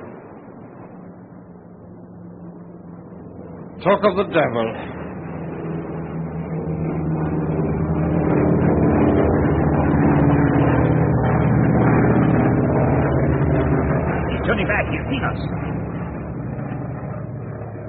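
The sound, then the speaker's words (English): A coastal patrol aircraft's engine drones steadily off the coast of Australia as it gets light, swelling louder as if passing overhead before easing off slightly, with a man briefly speaking early on. “Getting light now, and I'm sure there'll be coastal air patrols which are bound to see us.”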